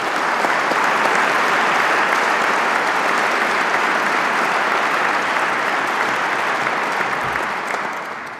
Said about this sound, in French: Je demande aux lauréates de se lever et je vous demande de les applaudir.